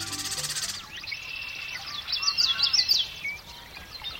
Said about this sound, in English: It's dawn in a western marsh in midsummer, and man, those birds are singing. The males of more than a dozen species are staking out their territories and attracting mates.